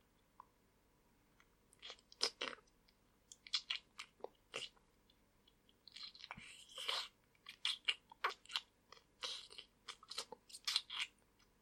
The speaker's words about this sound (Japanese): 気持ちいい。君とエッチなキス、気持ちいい。